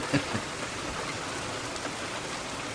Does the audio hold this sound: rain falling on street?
yes